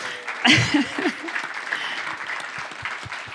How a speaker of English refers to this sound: Fabulous answers, eh? Let's just thank them and give them a round of applause.